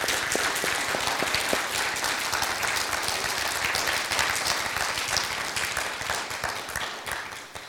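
A crowd applauds steadily for several seconds, a dense, even wash of many hands clapping at a fairly loud level that tapers slightly toward the end.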